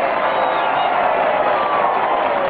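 A large crowd roars with steady applause and cheering, a dense, continuous wall of clapping and shouting that holds at the same loud level throughout.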